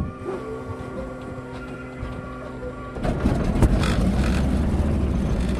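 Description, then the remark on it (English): Marty Sheehan fires up the engine of a small aerobatic airplane designed for primary aerobatic training in the Russian military, rated plus 7 minus 5 G, with 3,500 hours on it. It idles with a steady, humming drone, then about halfway through catches and surges into a louder, rougher roar that holds continuous to the end. “So Marty Sheehan fired up the engine.”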